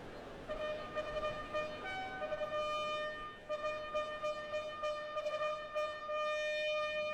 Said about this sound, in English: Tonight, she begins her journey at one of the noisiest stretches of traffic in London.